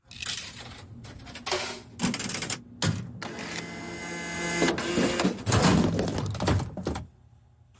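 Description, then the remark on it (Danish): A vending machine dispenses a pack of chewing gum: several bursts of loud mechanical whirring and rattling, broken by short pauses and clunks, then a final quiet thunk. No voices. “Det var en pakke tyggegummi. Fra en automat.”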